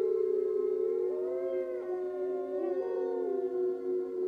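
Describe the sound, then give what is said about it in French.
A pack of wolves, crouched with noses pointed to the sky, howls its hunger cry together, several long wavering voices overlapping and sliding up and down in pitch in a steady, mournful chorus that carries on throughout without pause or talking. “Un par un, les loups vinrent la rejoindre, jusqu'à ce que la horde entière, accroupie, nez pointé vers le ciel, hurle son cri de faim.”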